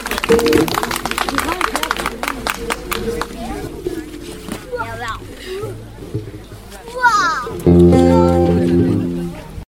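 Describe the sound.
A burst of dense applause for a child opens, fading out within a couple of seconds, followed by mixed voices and a loud, sustained harmonic tone toward the end.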